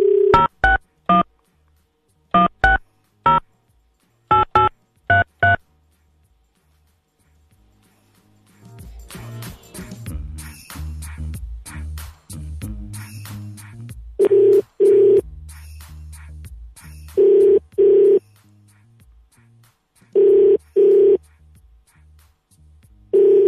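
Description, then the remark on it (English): A quick run of touch-tone keypad beeps dials a number in short clusters, then a hissy phone line carries several evenly spaced ringing tones, each a loud buzzy pulse about a second long. “Answer the phone.”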